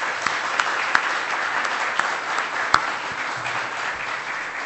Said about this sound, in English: Thank you for your preaching ministry. We're going to give you a round of applause and then we'll pray.